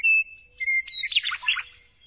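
A Western Meadowlark, recorded by sound tracker Gordon Hempton, sings alone: a clear, high whistled note, then a quick tumbling run of bright, flutelike warbles that slide downward and fade, all in about two seconds.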